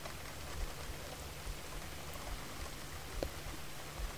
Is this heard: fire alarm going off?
no